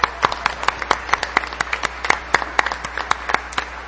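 An audience at an Al-Anon meeting applauds steadily for two speakers, many hands clapping in a dense, irregular patter of sharp bright claps that continues throughout without any talking.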